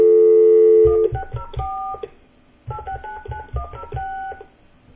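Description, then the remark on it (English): A steady dial tone cuts off into two quick bursts of touch-tone beeps, each a rapid string of short dual-pitched keypresses separated by a brief pause, clear with no voices. “Let's go dial it on the air and please this, you know, one person that was complaining that, hey, you guys don't make enough phone calls with on the show.”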